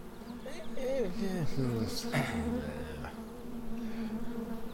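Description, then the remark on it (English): A steady droning buzz of angry bees carries on throughout, with a brief wavering voice-like sound rising over it in the first half before the buzzing continues alone. “I would like to try and reason with the bees.”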